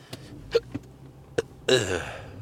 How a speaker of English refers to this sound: He's burping at me.